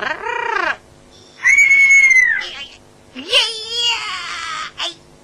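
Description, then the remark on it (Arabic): A rare caged bird that sometimes talks lets out three loud, shrill screeching calls, each rising and falling in pitch with a harsh, crying tone, separated by short pauses. “لا تخرجه من القفص. لا تخف، طائر جميل.”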